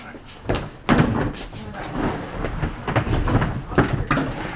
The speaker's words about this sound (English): Oh, okay. Just make sure ease the chair forward. Yeah, it can't be on that strip. If it'll take the strip up if you're not cautious. Move it up.